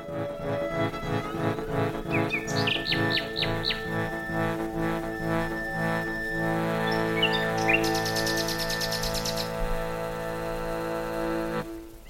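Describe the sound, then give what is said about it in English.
Birds chirp and trill in quick bright bursts over a steady, humming tonal backdrop, with a brief shimmering flurry near the end; no one speaks. “I don't know why, but hopefully we can track it back and it was the bird sounds.”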